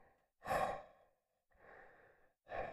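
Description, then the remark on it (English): A voice imitates the heavy breathing of Kingpin: three loud, breathy exhales and inhales in a slow rhythm, with short silences between them and no speech. “He wouldn't be a really good Spider-Man because he couldn't sneak up on you because you always hear him breathing like.”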